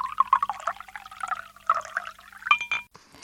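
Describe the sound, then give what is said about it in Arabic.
Water pours into a glass in a quick gurgling splash with bright, rising clinks and trickles, lasting a few seconds before stopping abruptly. “وهذا قلاص المي.”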